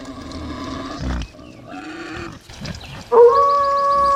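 wolf howling

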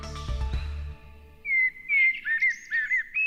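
blackbird singing

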